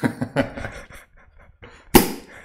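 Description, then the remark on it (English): A swing-top bottle of 5.9% beer is opened: a few soft clicks and fumbling taps, then one sharp, loud pop of the stopper followed by a short fizzing hiss that quickly fades. “It has one of these fun click top things.”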